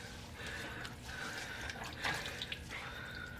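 Water runs steadily from a tap into a sink, with small splashes and irregular patters as hands cup it, close and moderately loud, no voices.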